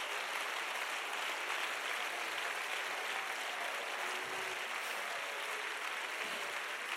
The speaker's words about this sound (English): I want you to give the Lord a hand clap of praise, please.